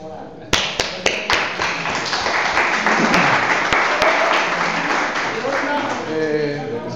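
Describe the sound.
A crowd breaks into applause, starting with a few sharp claps that swell into dense, steady clapping filling the room, with faint voices murmuring underneath as it begins to fade.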